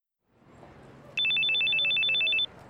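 A telephone rings with a rapid, trilling electronic bell, a fast pulsing burst lasting just over a second, loud against a quiet background with no one speaking.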